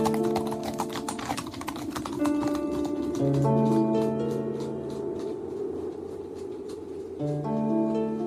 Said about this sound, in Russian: Взял вожжи, и лошади полетели.